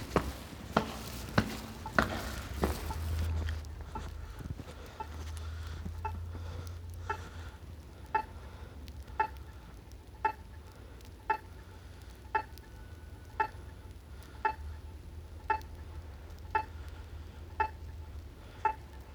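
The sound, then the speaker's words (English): Steady, evenly spaced ticks from a crosswalk pedestrian signal in Oakland at around 3:45 a.m., with few cars on the road, about one per second, crisp and clicky over a low hum of background noise, with a brief rumble early on and no talking. “It's the sound of the crosswalk as I'm on my way to Central Oakland.”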